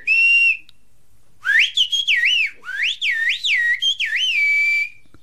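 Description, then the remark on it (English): A loud human whistle in the whistled bird language of Kuskoy: a short steady tone, a pause, then a long sequence of rapid rising and falling pitch glides and breaks. It is a coded whistled message meaning 'brother, let's go down to the valley', with no talking. “You can even whistle in code so the neighbors don't understand. Ours goes like this.”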